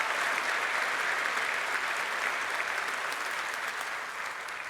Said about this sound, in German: Ja, erstmal einen großen Applaus für die Engel.